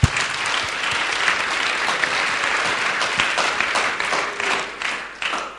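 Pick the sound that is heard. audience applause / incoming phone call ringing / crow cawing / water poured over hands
audience applause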